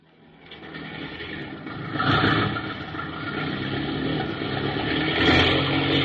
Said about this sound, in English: Hey, what you trying to do blasting that engine?